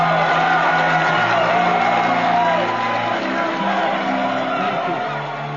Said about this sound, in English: Great visual at the end of that ad, by the way. He showed up at an event, and there's just all those people standing there clapping and cheering. I mean, it's incredible.